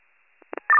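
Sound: dispatch alert tones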